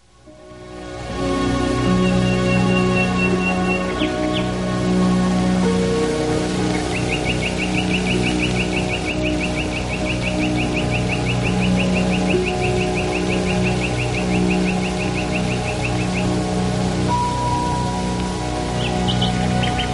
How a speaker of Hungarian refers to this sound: Madártan tudománya az ornitológia, az itt bemutatott közönséges fülemülén kívül még mint egy 18 fajtart számon, szinte valamennyiük pompásan énekel. A rigófélék családjába tartoznak, s ebben a madárcsaládban egész sereg jól éneklő faj fordul elő.